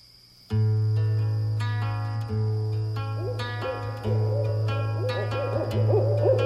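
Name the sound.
owl hooting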